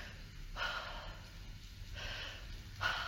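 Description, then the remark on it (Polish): Audible breathing with no talking: a long deep breath drawn in, a slow exhale, then another sharp inhale near the end, each a broad airy rush. “Najpierw weź duży oddech. Jak bierzesz głęboki oddech, to potem możesz też oddać, tak? I w ten sposób oddychasz.”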